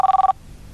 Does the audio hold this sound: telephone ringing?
yes